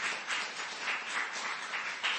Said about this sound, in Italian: Amen, dare tutti un amen, Signore, un applauso al Signore per ciò che Lui ha fatto ogni giorno, ogni settimana.